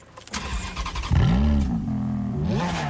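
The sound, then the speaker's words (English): A Ferrari convertible's engine cranks and catches with a loud burst as the car is started, then revs up and settles into a throaty, rising growl, with no voices. “He meets her pleading gaze, then turns away with a regretful look and starts the car.”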